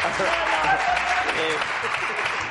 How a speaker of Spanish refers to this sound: Oye, vamos a aplaudir el chiste